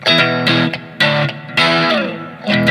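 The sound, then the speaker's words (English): Electric guitar played through an overdrive pedal on a pedal board, a pedal that mimics an overheating amp, thick fuzzy chords struck in a loose rhythm with sustained, gritty distortion ringing out loud, no voices. “the amps would overheat and they would create this fuzzy, distorted sound. And that's what this pedal mimics”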